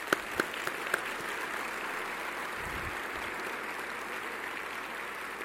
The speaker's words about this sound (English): And this year's honoree is Phil Moyer, First National Bank. Let's give Phil a round of applause.